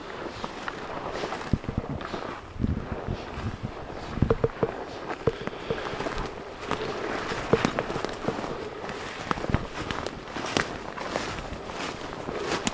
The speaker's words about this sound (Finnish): Ja sitten niin kuin sopimus oli, niin ammutaan ohi. Mitä? Yläkulmiin, kyllä.